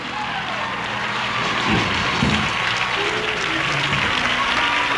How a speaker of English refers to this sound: The white mother and the black baby clapping right along. Look at that darling baby. Shouting the victory right along.